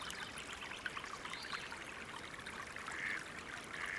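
Soft, steady trickling water of a hot spring runs continuously with a gentle bubbling texture, quiet, with no voices present.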